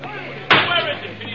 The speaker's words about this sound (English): It was a desperate shriek of brakes and a crash out on the highway.